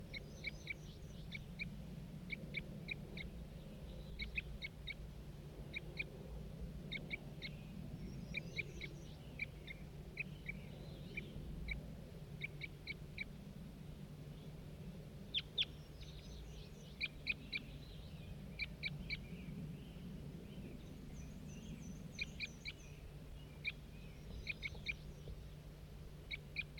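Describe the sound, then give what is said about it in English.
A wild bird calls repeatedly in low, owl-like hoots, while clusters of quick high chirps come and go above a steady low hum, with no voices. “Start recording that same wild bird.”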